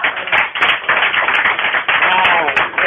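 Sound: applause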